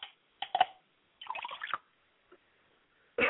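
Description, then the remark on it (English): Liquid is poured out as a libation to God in several short splashing bursts with brief dripping gaps between them, fairly quiet, and no one speaks. “So I like to pour libation to Oladulamare by saying Ashe.”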